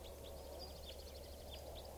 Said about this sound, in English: Recording now, it sounds like a bird is crossbill song here. I think it's a type 4 juvenile.